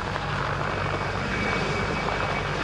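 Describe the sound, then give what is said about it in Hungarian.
A private company's firefighting helicopter drones steadily and loudly, its engine and rotor noise a constant roar with a low hum underneath, no voices; it drops 800 litres of water per run over a burned 1,100-hectare juniper forest area at Bugac in dry weather. “A tűzoltók munkáját egy magáncég helikoptere is segítette, egy fordulóban 800 liter vizet zúdított az 1100 hektáros területre, így nedvesítik a már eloltott részeket, hogy ne kapjanak ismét lángra.”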